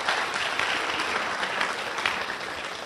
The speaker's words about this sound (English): And go ahead, give her a round of applause.